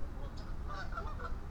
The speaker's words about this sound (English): There's a lot of quacky action out there. Quackity, quackity, quackity, quack. Lots of honks. Lots of goose honks. Lots of ducks quacking. Good stuff all around. lots of bird noise.